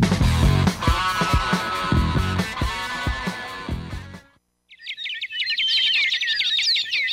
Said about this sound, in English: all around you, you hear a myriad of birdsong